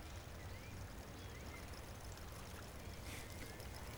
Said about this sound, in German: Möwen und andere Vögel schreien, knacken im Geäst. Windstöße vom Meer.